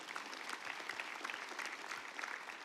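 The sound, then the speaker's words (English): An audience in a church applauds steadily when asked to clap their hands, many hands clapping in a dense, continuous patter at an even loudness, with no voices rising above it. “If you believe that, clap your hands in this place.”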